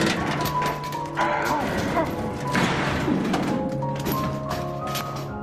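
A wooden easel stuck in a doorway is tugged hard by a man trying to dislodge it, giving a run of dull thuds and knocks with a burst of clattering scrapes, all under a steady tonal music bed.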